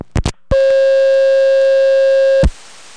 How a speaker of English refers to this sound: But at the Seattle Phone Museum, they used this tone plant for other types of switches, and the number 5 crossbar, when it goes to permanent signal, gives you